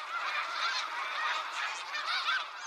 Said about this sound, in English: There's always something to listen for, signs of life, geese flying overhead, like these snow geese.